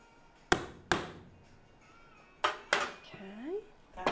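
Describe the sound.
Sharp metallic hammer strikes on a letter stamp, punching the letter R of a six-letter word into a piece of metal by hand, landing in quick pairs with a ringing tail after each, then a fifth blow at the end; a faint voice murmurs between blows.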